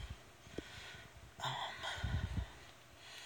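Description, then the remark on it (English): Heavy, effortful breathing from a person lying in a bathtub at about a 45-degree angle, shoulders and head on the tub bottom, knees bent and legs up on the shower wall, with a sharp gasping inhale followed by rough, snorting exhales and low rumbling thumps, no talking. “Sorry for the slightly labored breathing.”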